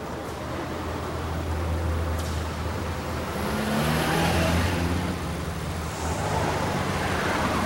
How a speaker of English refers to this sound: Later, the Beetle turns into the driveway of a motel and past the roses in the flower beds. Zipporah stops in the central courtyard. Spying Noah's car, she pulls up behind it, blocking it in.